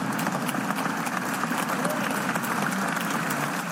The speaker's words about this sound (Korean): 2017년 7월 미국 상원에서는 표결을 위해 입장하는 원로 의원에게 여야 의원들이 일제히 일어서서 박수를 보냈습니다.